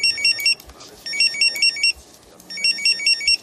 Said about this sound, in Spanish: Estos tres pitidos solo significan una cosa para un geo, que una misión está a punto de comenzar.